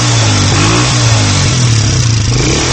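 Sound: motorcycle engine revving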